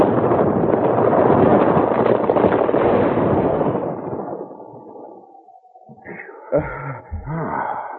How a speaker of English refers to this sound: I thought it was an avalanche. Guess it was just a piece of rock broke loose.